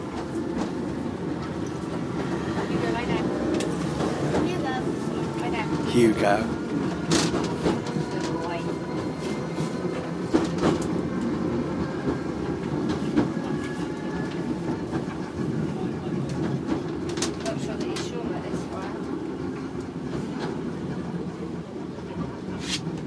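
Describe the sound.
Steady low rumble of a rickety moving train carriage, with rattling clatter and occasional clicks over the rails, continuous, while a voice briefly speaks over the noise.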